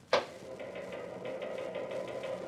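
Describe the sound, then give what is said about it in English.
A sharp bang opens onto a steady mechanical clatter: rapid, evenly spaced clicks over a low running hum, like linotype machines working in a local newspaper office. No one speaks. “Now I think he's going into the local newspaper office.”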